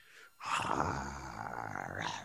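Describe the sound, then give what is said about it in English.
A man's voice imitates a tiger's roar, a single loud, rough, sustained growl lasting about two seconds after a brief breath. “No, elephants don't make that noise, sorry. That's a tiger.”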